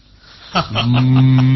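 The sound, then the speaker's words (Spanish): A cow lets out a deep, drawn-out moo that swells and holds steady, loud, after a brief soft thump, at the neighbouring slaughterhouse where cows are slaughtered, at night around 11:30 pm. “Mira, se oyen los mugidos de las vacas que sacrifican en el matadero de al lado.”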